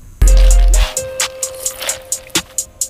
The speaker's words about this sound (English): So you hear like the pouring and the slurp? Oh, I see. It's his lean. Yeah. This is some purple drink.